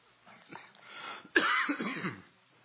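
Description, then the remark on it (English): A harsh cough from a speaker during a church service bursts out suddenly after a moment of raspy throat clearing, followed by a rough, breathy trailing rattle before fading out. “I try not to cough.”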